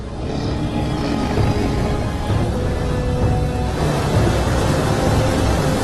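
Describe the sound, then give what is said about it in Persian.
A loud, raging storm that is growing stronger fills the whole stretch with dense, roaring noise and deep rolling rumbles of thunder that swell and ease without a pause. No voices are heard. “توفان داره شدیدتر میشه.”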